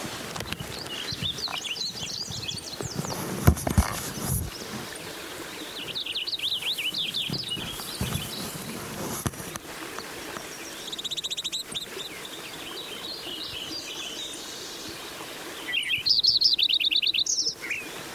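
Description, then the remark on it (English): Lincoln's sparrow song: four bubbly, rapid high-pitched warbling phrases separated by pauses, the final one the loudest, over a low background hiss with no talking. “Lincoln sparrow.”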